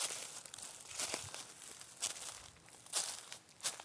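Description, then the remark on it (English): Footsteps crunch through dry leaves while someone walks through a state park on a Saturday morning, each step a crackly, rustling burst at an uneven walking pace, fairly soft overall, with a faint hiss between steps and no voices. “Me crunching on some leaves.”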